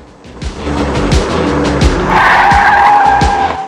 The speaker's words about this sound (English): Mark leans into Max's car and sounds the horn as a white convertible comes roaring up with Monique driving.